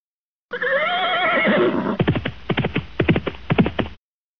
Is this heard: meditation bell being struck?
no